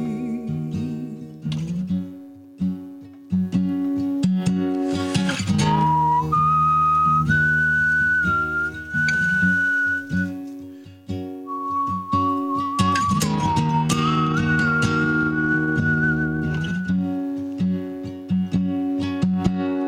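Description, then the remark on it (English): Someone whistles a slow tune in long, held notes with a slight waver, clear, over a steady backing of instrumental music, with no talking. “Wow, I don't hear you whistling a lot.”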